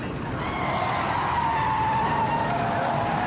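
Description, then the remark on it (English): A Mustang roars along southbound on Bayside at in excess of 120, with a police car right behind it, loud, with a steady rush of engine and tire noise and a high whine that dips slightly in pitch over a few seconds. “That Mustang southbound Bayside, excess of 120.”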